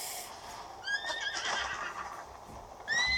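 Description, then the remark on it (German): A horse that has just been shot down whinnies with a rising, wavering neigh, followed by a second short neigh near the end. Fairly loud, with a faint background and no talking. “Ich habe ein Pferd abgeschossen.”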